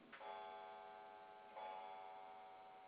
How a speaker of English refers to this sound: That was my clock. Sorry, it's fast.